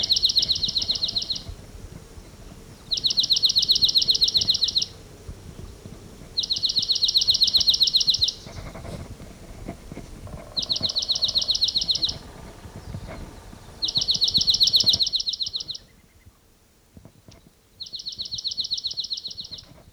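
bird, bird song

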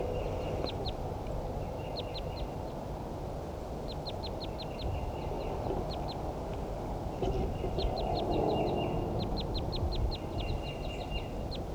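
bird, wild birds calling

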